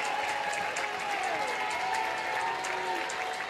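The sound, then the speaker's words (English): A large stadium crowd at a ball game cheers and claps steadily as coach Patrick Murphy fires them up near the Tide dugout, a dense, continuous wash of applause and voices, with a few faint whistles or shouts rising above the roar. “Patrick Murphy firing up the crowd.”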